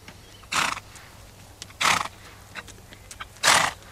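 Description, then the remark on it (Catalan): A horse neighs and snorts in three loud, breathy bursts spaced a second or so apart, with faint hoof clops and stable noise between them and no talking, as a seven-year-old boy leads the horse to a stable. “de seguida es va oferir a portar el cavall de l'Stuart a la quadra”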